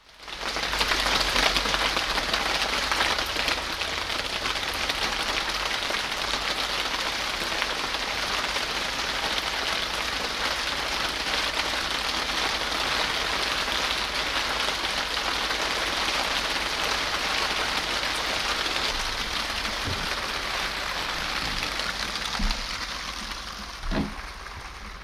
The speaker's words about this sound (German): Regen macht das Haus hörbar.